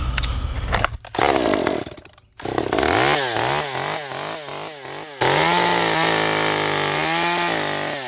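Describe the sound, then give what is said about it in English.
A chainsaw, the carver's main saw for shaping, runs carving wood, its engine revving up and down in repeated bursts as it bites into the wood, then settling into a steady, loud buzz of continuous cutting. “Sometimes I use a bigger chainsaw to cut some areas out, but this is my main thing here, and I'll show you how it works here.”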